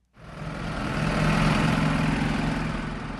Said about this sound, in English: 18-wheelers and passenger cars race down the highway that connects Dortmund with Frankfurt.